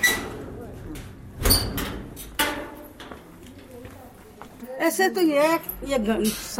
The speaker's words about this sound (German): Nun, 3 Jahre später, öffnet eine alte Frau die quietschende Tür ihrer neuen Toilette und zeigt stolz auf das blitzblank gefegte Plumpsklo.